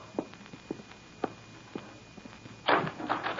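door being opened

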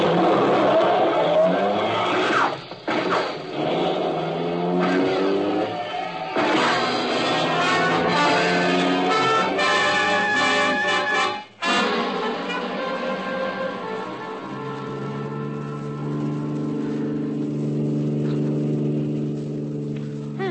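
car driving fast

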